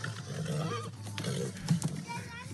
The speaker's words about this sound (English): He just farted. Shit himself? He made the sound of my. He's shitting all over the place. He's so dead. That horse is shitting everywhere.